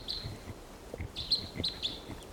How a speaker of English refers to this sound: Decoys calling there. Crossbills, several wild birds around the perimeter of this little gulch calling. And there's a wild one.